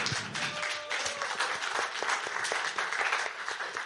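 A crowd applauds steadily, many hands clapping in a dense, continuous patter that holds at an even level for a few seconds before easing slightly at the end.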